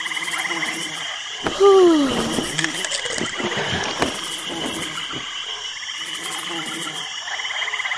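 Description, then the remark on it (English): Ambience in a deeper part of a marsh: a steady, dense chorus of frogs and insects fills the background, with one louder, drawn-out croaking call rising out of it near the start. “A deeper part of the marsh.”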